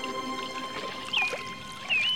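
sea water

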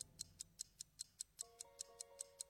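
clock ticking

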